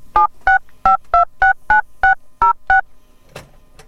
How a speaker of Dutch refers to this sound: Ik denk dat ik onze vriend Arthur eens heel even ga kijken of ik een telefoon niet te pakken krijg. Ik ga het een nummertje draaien.